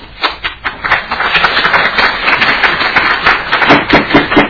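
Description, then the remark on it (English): An audience at a legislative committee hearing bursts into loud, dense applause and yelling, many hands clapping in a rapid, overlapping patter that holds steady for several seconds. “We really don't applaud and yell and things like that in here.”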